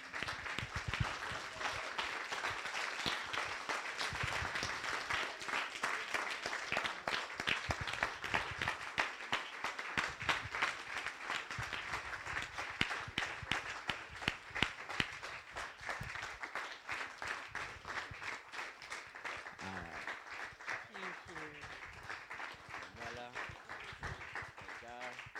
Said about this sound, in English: So I just really want us to stand and give these guys a massive clap, because they serve you all so faithfully.